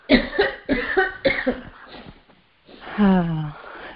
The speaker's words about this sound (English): I don't like that cough. Tell that person it wasn't not to cough. Me. Tell them not to cough. We don't cough nowadays.